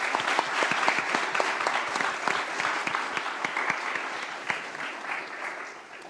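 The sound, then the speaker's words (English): A crowd at a service claps steadily for several seconds in appreciation of students who came and shared, a dense patter of many hands at an even loudness that thins slightly toward the end, with no voices over it. “Friends out there, if you would, show your appreciation for them and give them a round of applause for coming and sharing with us.”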